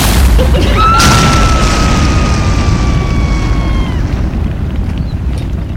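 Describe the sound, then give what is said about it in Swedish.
Worcestershire sauce catches fire: a sudden whooshing burst of flame erupts into a loud, steady fireball roar, with a high, sustained whine riding above it for a few seconds before the roar slowly eases off. “Och den Worcestershock som verkar skapa någon slags eldboll.”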